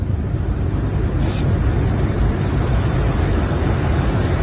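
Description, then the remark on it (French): A jet afterburner's heavy, steady roar, heard on board an aircraft as the pilot lights the afterburner to accelerate past Mach 1; a loud, unbroken rumble dominated by deep low-end power with a hissing wash above, and no voices. “Ah, le pilote vient d'allumer la post-combustion.”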